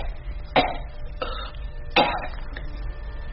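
woman coughing

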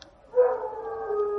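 wild dog howling

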